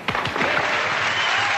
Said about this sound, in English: Okay, cue the clap now.